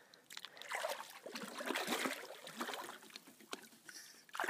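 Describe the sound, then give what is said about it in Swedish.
Water trickles and splashes softly, with small irregular drips and gentle sloshing as a hand moves through the surface of a calm lake with cold water. “Och vattnet, det känns ganska kallt idag också.”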